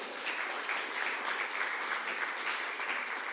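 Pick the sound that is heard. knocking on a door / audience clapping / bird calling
audience clapping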